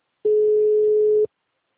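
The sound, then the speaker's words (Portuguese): A single steady telephone line tone on a dead, silent phone line, a flat low-pitched beep lasting about one second at full strength, then cutting off into silence. No voices are heard. “Moça, tá mudo o telefone.”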